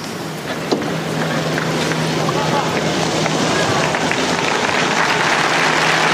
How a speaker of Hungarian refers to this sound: Szokásukhoz híven a zarándokok ma is tapssal köszönik meg Ferenc pápa áldását, az ő tanítását, és ezzel véget is ért a szerda délelőtti általános kihallgatása, audienciája Ferenc pápának.